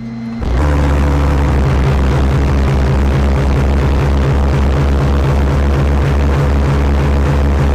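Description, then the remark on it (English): Pulse jet engines mounted on a boat roar to life after a brief quiet moment, a loud, rapid throbbing drone with strong low-end pulsing that holds steady for several seconds. “And you'll notice I don't have a heat shield protecting me or the gas bottles from the pulse jets.”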